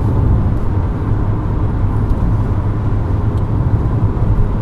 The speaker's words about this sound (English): That's a lot of engine noise. Or road noise. Yeah. Should have heard it before I put some oil in.